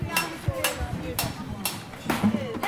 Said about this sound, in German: klopft ohne Ohrenschutz ein von einem Schwert durchbohrtes Herz ins Blech